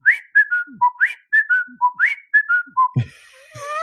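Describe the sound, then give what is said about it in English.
A person whistles a bird-like call imitating a cockatiel, a repeating pattern of rising and falling tones in three quick phrases, clear, ending with a brief noisy shuffle. “Yeah, no, I can still do the whistle.”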